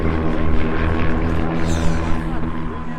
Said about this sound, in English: Yeah! It's passing! That's an airplane!